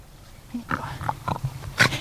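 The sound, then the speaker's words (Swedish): A dog in a garden makes a string of short, snuffly grunts that sound much like a pig, with a louder huffing snort near the end. “Man kan tro att det är en gris här i trädgården, inte en hund.”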